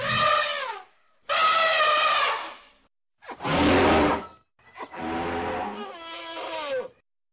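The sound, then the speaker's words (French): An elephant trumpets loudly in four blaring, brassy bursts, each about a second long with brief pauses between, mixed with rough snorting and no voices. “Mais l'éléphant refuse et continue de barrir et de souffler.”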